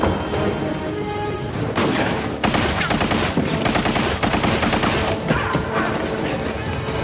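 Dense, rapid gunfire crackles continuously for about seven seconds during an attack on an armored vehicle with bulletproof glass, sharp bursts layered over a loud, steady roar with a few heavier impacts standing out.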